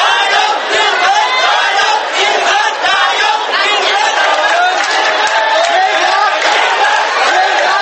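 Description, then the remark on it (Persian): A large crowd of Thailand's Red Shirts, supporters of the Pheu Thai party, roars and shouts together on a Sunday in loud, continuous triumphant victory cries, a dense wall of overlapping voices that swells and surges without pause. “سرخپوشان تایلند که سال گذشته پس از ضرب و شتم نیروهای دولتی و تخریب چادرهایشان در مرکز تجاری بانکوک مجبور به عقب نشینی شده بودند، روز یکشنبه فریاد پیروزی سر دادند.”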